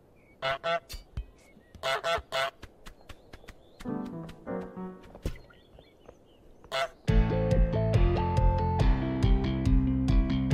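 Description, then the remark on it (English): A string of harsh, nasal goose honks sounds in irregular bursts, some doubled, before steady music with a beat takes over for the final few seconds. “We'd love to listen to your honks and feedbacks.”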